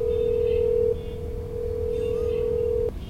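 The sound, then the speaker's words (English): A steady, continuous telephone dialing tone hums loudly at one pitch for about three seconds as someone phones their mother, dropping slightly in level partway through, over a low background rumble with no talking. “Call her. Okay. Hand me the phone.”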